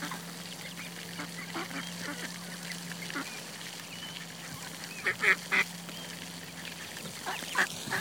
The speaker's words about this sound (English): It's a nice sunny day. Ducks are out. Say hello to Audio Mode ducks.